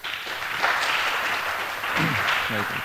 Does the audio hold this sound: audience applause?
yes